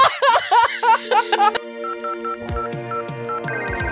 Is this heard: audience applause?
no